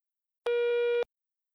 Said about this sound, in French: Je ne peux pas répondre pour le moment, mais laissez-moi un message après le signal sonore.